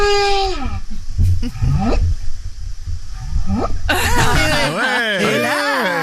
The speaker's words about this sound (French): Oh, c'est une baleine. Ça, c'est une baleine qui essaye de... C'est une petite baleine coquine.